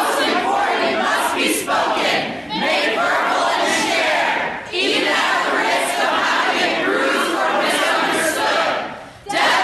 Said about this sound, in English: And as Murray took the stage at the McCullough Student Center, after an introduction from Middlebury President Lori Patton, dozens of students rose in unison, turned their backs to Murray, and began to chant.